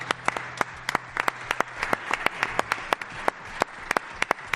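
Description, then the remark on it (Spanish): A crowd applauds the pitero (pipe player) of Iniesta, many hands clapping at once with sharp, irregular claps standing out above the dense patter, continuing without pause and without voices. “Vamos a dar un aplauso.”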